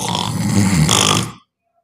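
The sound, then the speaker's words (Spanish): A snoring sound effect with choking included: one loud, rough snore with a gurgling, choking rasp, lasting just over a second before cutting off abruptly into silence. “Sonido de ronquido.”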